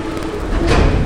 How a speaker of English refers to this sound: Whew. Go, truck.